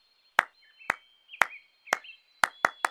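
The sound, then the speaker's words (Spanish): Seven sharp hand claps imitate a woodpecker's pecking, evenly spaced at first, then a quick final three, over a faint steady high tone. “¡El pájaro carpintero! ¡Yo puedo imitarlo!”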